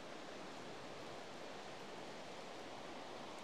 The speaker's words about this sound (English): From the viewpoint, we've made our way down through the misty woods to the banks of the River Yure, which is twisting and drifting through this wood-clad valley.